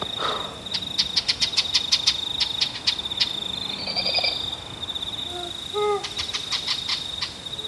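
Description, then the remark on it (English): A few short, soft owl calls, played back quietly to owls that are close by, come near the end against a dense, steady chorus of crickets and frogs trilling in rapid pulses throughout. No one speaks. “So we're playing the calls nice and quiet because the owls are so close.”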